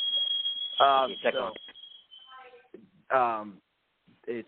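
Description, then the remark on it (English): A shrill, high-pitched smoke detector alarm tone sounds steadily for about two seconds while a person talks over it, then cuts out as the speech continues on its own. “my fire alarm's going off again.”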